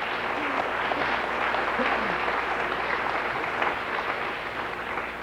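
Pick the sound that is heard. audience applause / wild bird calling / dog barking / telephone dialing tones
audience applause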